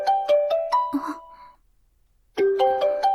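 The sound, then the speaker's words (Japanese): A phone rings with a call from a friend, playing a melodic ringtone: quick, bright chiming notes in a short phrase, a second of silence, then the phrase starts again, loud with no voices. “あれ？電話？”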